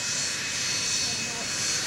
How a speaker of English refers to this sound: Wait a minute. What's that noise? Oh, my gosh. It's a jet engine. Is that not great or what?